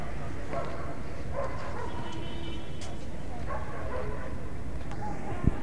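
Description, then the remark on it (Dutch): A dog barks several times in short, irregular bursts over a steady outdoor hubbub, with murmuring voices in the background and the barks sounding moderately close. “Met een gezellige hond in de buurt.”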